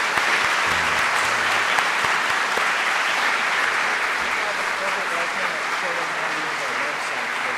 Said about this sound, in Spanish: Aquí la iglesia de Los Fresnos trabajaron y es súper cansado. Y muchas gracias, lo quiero decir. Vamos a darles un aplauso de gratitud. Muchas gracias.